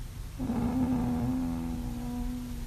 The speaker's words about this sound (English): Yeah, she's got a good little snore happening. It's like a groan. Sounds more like a moan. I know, it's like there is a bit of a moan. It's this weird groaning, moaning sound.